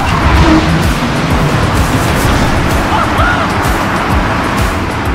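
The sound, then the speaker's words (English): A rocket engine test firing at Blue Origin HQ roars steadily, a dense, unbroken rumble with a crackling, hissy edge that holds constant throughout without pauses or voices. “I stepped out of the car and, of course, they're testing a rocket engine.”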